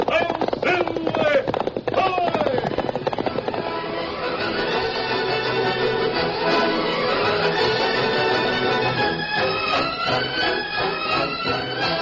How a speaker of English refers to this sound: From out of the past come the thundering hoofbeats of the great horse Silver. The Lone Ranger rides again.